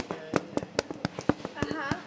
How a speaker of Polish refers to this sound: Gdy wyjmuje się z pieca, to puka się. Zobaczcie, jak dźwięk jest taki jak bębenek, tylko tak blisko ucha, zobaczcie.